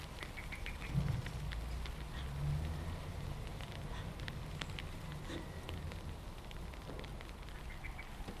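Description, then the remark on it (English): Steady rain falls throughout and gets heavier, a dense hiss dotted with sharp drips and patters on a surface, with a low rumble beneath; no one speaks. Heard from inside a shed on a cold, windy morning. “But it's raining and it's getting heavier.”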